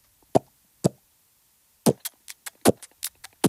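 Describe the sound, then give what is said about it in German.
A voice imitates a beatbox bass drum with lip-kiss pops made at the edge of the lips rather than the front, giving a deeper sound: two sharp, spaced smacks, then a quicker, uneven run of about nine more, each short and punchy, with no talking. “Und dann kannst du die Bassdrum machen, indem du nicht vorne küsst mit den Lippen, sondern am Rand.”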